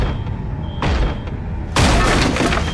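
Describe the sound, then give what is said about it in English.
A firefighter forces open a motel room door with a heavy thudding blow, then a second, louder crash gives way to a sustained roar of splintering, rushing noise as smoke and flame billow in. “The firefighter breaks in through the motel room door, smoke and flame billowing in around him.”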